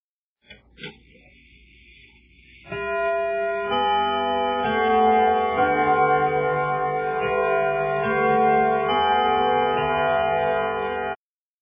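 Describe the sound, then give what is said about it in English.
A few ticking clicks, then the Big Ben clock tower bell at the Houses of Parliament in London chimes a slow sequence of loud, resonant strikes whose rich ringing tones overlap and sustain without pause. “Big Ben sits at the top of the clock tower in the Houses of Parliament. It makes a loud noise.”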